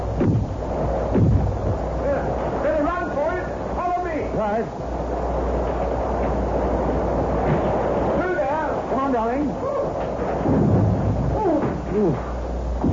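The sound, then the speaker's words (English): Heavy, continuous rumbling thunder rolls over gusting wind, loud, while muffled voices talk in short bursts beneath the storm. “It's better than driving through that horrible storm all the while.”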